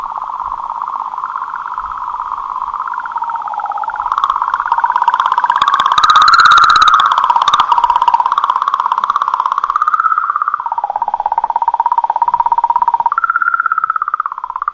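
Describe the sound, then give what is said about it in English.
A sonified natural radio signal emitted by Comet 67P: a steady, warbling electronic tone wavers up and down in pitch, with a burst of crackly static rising in the middle, continuing alone without any voices. “This is supposed to be Comet 67P emitting a natural radio signal.”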